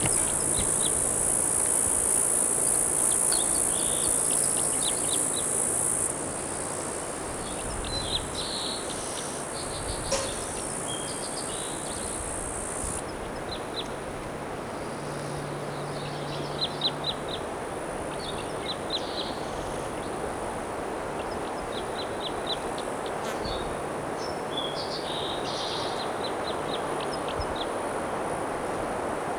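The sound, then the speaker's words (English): A bird sings in short, repeated bright phrases, separated by pauses, over a steady high-pitched insect drone that runs throughout; recorded at 2:29 p.m. No one speaks. “Recording is a crossbow nearby singing here at 2:29 p.m.”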